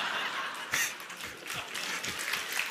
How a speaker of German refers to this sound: Wie muss ich jetzt diesen Applaus verstehen?